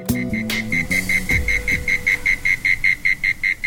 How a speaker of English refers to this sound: The sounds of insects on a warm spring evening is music to the ear of composer Meira Warshauer.